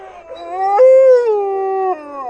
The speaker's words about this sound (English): All the dogs join in, but there's one, Bandit, that can't quite get a howl going. He's mostly dog, and not all dogs can make that noise. But something in him still makes him want to join in with his pack.